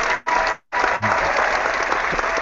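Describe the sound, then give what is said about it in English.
Crowd applause played as a sound effect, a dense wash of clapping that starts, briefly cuts out, then returns steady and loud for the remainder, with no voices over it. “We should have something way better, like crowds and that sounded like cymbals crashing or something.”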